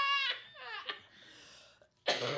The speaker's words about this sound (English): You should really do something about that cough.